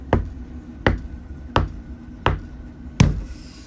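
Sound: knocking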